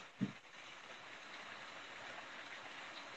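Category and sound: nature, gentle rain falling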